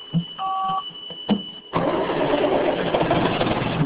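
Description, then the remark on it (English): A short electronic beep and a few clicks from the cockpit, then the engine of a Ponzi logging machine with a robotic arm kicks in with a loud, steady, rough mechanical roar that holds to the end. “swivels inside the beeping, blinking cockpit of the family Ponzi, a logging machine with a robotic arm.”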